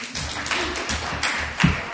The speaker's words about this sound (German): Okay, also es hört einer zu. Gebt ihm Applaus.